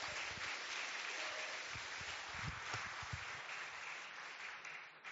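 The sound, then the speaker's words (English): An audience claps their hands in sustained applause as a hand clap of praise to God, a dense, steady wash of many overlapping claps at a fairly even loudness for several seconds, with no speech over it. “Now let's give God some praise, a hand clap of praise.”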